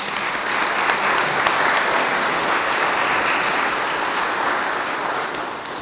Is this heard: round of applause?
yes